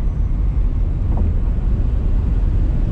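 A Tesla Model S Plaid launching at full acceleration, heard as a loud, steady low roar of road and wind noise that holds constant throughout, with no voices.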